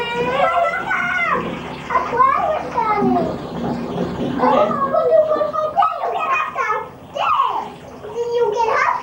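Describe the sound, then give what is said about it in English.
Hot water pours steadily into a bathtub to freshen up the bath water, a continuous rushing hiss beneath lively, overlapping children's voices chattering and calling out throughout. “Here, let's freshen up this water. I'm gonna put some hot water in here.”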